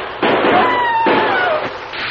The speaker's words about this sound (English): Only one man fired, Dan. And I'm sure it wasn't McLean.